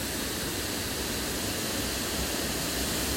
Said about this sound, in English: The rocky facade of the whirlpool is flanked by green mosses and ferns, which are being licked by the mist coming off the water that's falling down over the rocks.